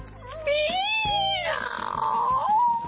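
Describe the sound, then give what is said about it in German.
A long, drawn-out cat-like meow, loud, its pitch wavering up and down over about three seconds and ending on a rising note. No one speaks. “Huch, war das eine Katze?”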